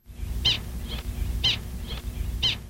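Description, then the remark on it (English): A prairie dog's alarm call for a diving hawk: sharp, high chirps repeating about once a second, three loud ones with softer echoing calls between, over a low background rumble. “The third clip we have is alerting that there is a hawk on the ground or flying in. The hawk is flying in.”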